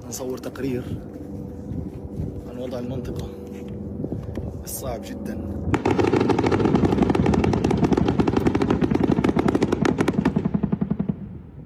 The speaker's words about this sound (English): On September 27th, journalist Saleh al-Jafarawi documented Israeli helicopter gunships and drone artillery firing heavily in the north.